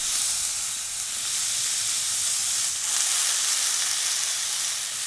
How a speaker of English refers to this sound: That's a real sizzle.